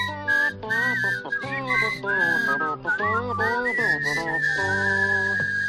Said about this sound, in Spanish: Por eso vamos silbando por la vida. Por eso somos clientes de Feuber.